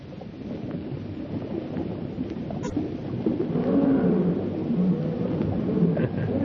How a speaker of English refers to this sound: Fellow sounds hungry. Lions appear to be always hungry.